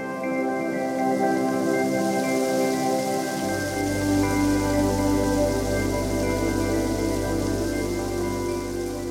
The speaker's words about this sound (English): Monsoons in the desert always seem like an impossibility. Until you find yourself standing outside in the middle of the unforgiving desert summer, drenched in rain.